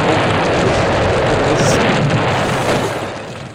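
A train crash sound effect: a loud, dense roar of crashing noise that holds steady for about three seconds, then begins to fade, with no voices over it.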